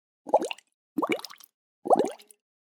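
Three loud, bubbly gurgles of a stomach after a big glass of fizzy lemonade was drunk very quickly, each a short wobbling burst with sliding pitch, separated by brief pauses, with no talking.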